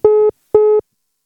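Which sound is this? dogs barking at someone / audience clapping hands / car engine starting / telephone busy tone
telephone busy tone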